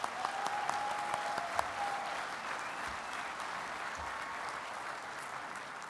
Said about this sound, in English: One more time, a round of applause.